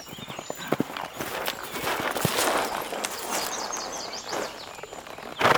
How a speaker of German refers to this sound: Da lief auf der Wiese ein Pferd hin und her.